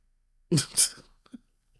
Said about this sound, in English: I was clearing my throat to say the word hey.